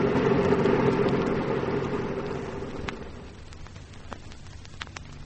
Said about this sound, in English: This old truck no catch up with that car. He too fast, eh?